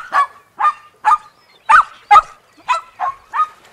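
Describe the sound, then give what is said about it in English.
A dog, Fussy, barks at a fish eight times in a steady, evenly spaced series, each bark short, sharp and loud, with nothing else in the background. “Fussy barked at it.”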